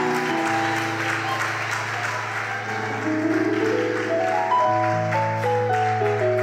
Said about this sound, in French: Alors, je vais juste accueillir l'homme de Dieu. Sous vos applaudissements, s'il vous plaît, encourageons l'homme de Dieu.